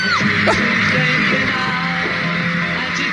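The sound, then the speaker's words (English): A concert crowd of about 50,000 women screams continuously in a dense, high-pitched roar, loud and unbroken for the whole stretch, with faint thumping drums from the band's drummer buried underneath. “But listen to him doing his drumming in the back. 50,000 screaming women.”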